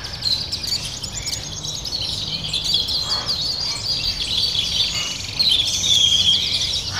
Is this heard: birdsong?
yes